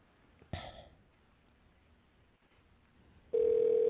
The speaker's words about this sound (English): we're going to try dialing Mike Wesley and get him on the phone